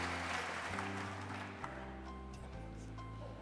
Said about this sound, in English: Applause from the audience.